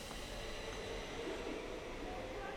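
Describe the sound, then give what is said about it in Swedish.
A train pulls away from a platform, a steady low rumble with a broad hissing wash that holds evenly throughout. “Vi kan ju gå lite längs perrongen här och se vad vi ser på andra sidan medan tåget kör iväg.”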